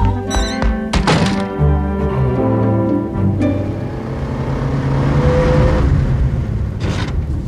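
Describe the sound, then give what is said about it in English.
A car door slams with a heavy thunk, then an engine starts and revs up, its steady rumble building as the car drives off to hurry to the mortuary, with a second sharp knock near the end. “Drive a little faster.”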